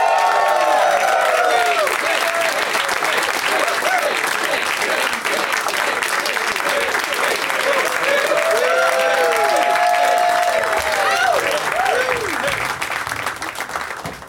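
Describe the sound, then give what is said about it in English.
An audience applauds steadily and loudly for about fourteen seconds as guests Griffin Newman, Ross Marquand, Todd Glass and Jeff Tate are introduced, a dense wash of clapping with scattered whoops and shouts of cheering rising above it, fading slightly at the end. “Please give it up for Griffin Newman, Ross Marquand, Todd Glass, and Jeff Tate.”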